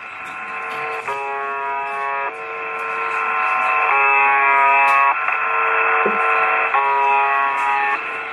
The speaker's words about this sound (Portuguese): É isso, ela transmite o que parece uma buzina de navio, uma sei lá que diabos. De vez em quando isso é interrompido, vem algumas palavras em russo.